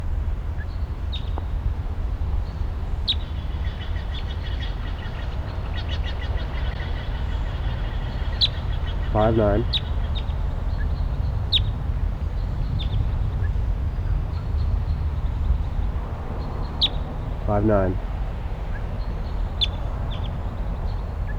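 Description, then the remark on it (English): Sharp, high call notes of a wild red male crossbill sound one at a time at irregular gaps over a steady low rumble. Two brief, buzzy, lower-pitched bursts break in partway through. “The wild crossbill is here.”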